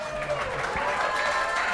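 A crowd cheers and applauds in a steady, dense wash of clapping and shouting that holds at a fairly even loudness throughout, with no single voice standing out.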